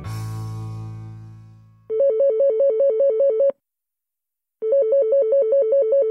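A telephone rings twice with a warbling electronic trill, each burst lasting over a second with a pause between, following a fading chime at the start. It is a call to a youth hostel in Annecy. No one speaks.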